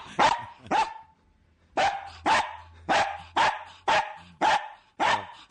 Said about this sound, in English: That's Joe's beagle.